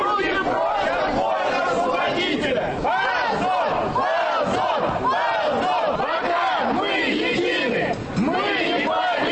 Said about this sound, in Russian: На противоположной стороне посольства в Малом Кисловском переулке у главного входа толпятся сторонники движения «Молодая гвардия» и местные. Звучащих из колонок музыкантов периодически перекрикивают митингующие.